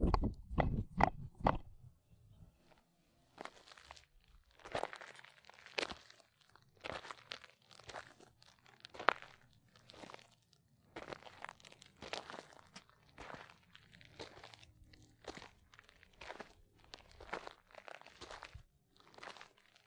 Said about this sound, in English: Footsteps on gravelish Carpinteria, take two. Carpinteria inland, take two.